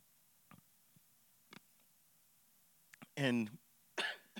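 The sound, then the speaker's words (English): Two harsh bursts of coughing from lingering chest congestion, the first rough and drawn-out, the second shorter, preceded by a few faint clicks and breaths. “And I will say, and pardon me if I cough a lot, I've got a chest congestion that's just hanging on.”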